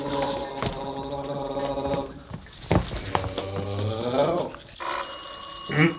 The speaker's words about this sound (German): Er kümmerte sich um das Frühstück, während Peter und Justus im Bad noch die Zähne putzten.